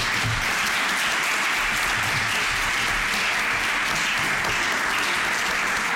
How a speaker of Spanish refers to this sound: Que un aplauso para todos los que están aquí.